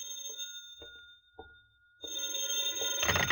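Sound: telephone bell ringing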